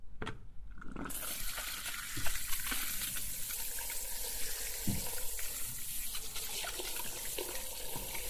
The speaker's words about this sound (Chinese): 好了，接下来给你洗头喽。躺好了，来，我开水了。